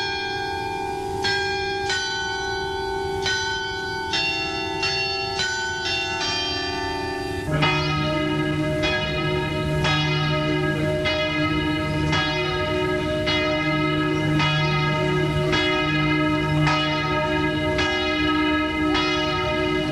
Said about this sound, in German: Wieso und warum erfahren wir dann, nachdem wir die Glocke von Lourdes gehört haben.